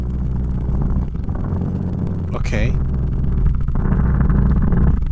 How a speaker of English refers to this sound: So the cat's purring while driving the car. And that's a really weird sounding car. It's very 80s game-like, video game-esque.